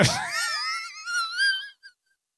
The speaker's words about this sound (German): Hast du gehört, wie sie Lunge gepfiffen hat? Man, das sind jeden das, Tag 600 Züge E-Zigarette. Das ist Captain pfeifende Lunge, ja.